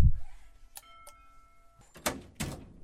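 A doorbell at a home in Vrtojba chimes twice in quick succession, a soft two-note ding-dong whose tones ring out and fade, followed by some rustling and clattering noises; a Radio Ognišče team is ringing to surprise a listener on her birthday.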